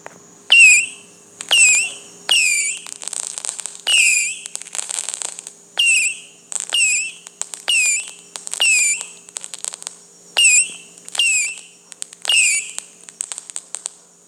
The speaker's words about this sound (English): What I said previously, this one is longer, so you get a longer. Wow, those people are excited. You get a longer rocket whistle launch if you swipe to the left with one finger.